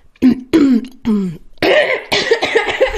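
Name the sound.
throat clearing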